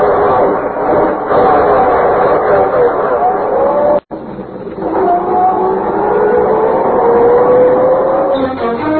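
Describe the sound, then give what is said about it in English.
A car engine roars loudly and steadily as the car drives out of a garage, its pitch climbing as it accelerates, briefly cutting out midway before revving up again and continuing to pull away. “When I get out of the garage, you duck down. If they try to stop us, well, I'll run them down.”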